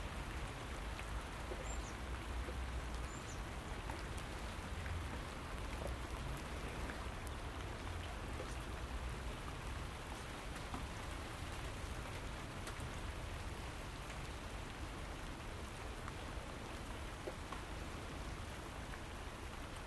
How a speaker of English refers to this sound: Oh, very pleasant this morning. Soothing, calming rain. Love the way it bounces off rubbish bins and buckets, upturned buckets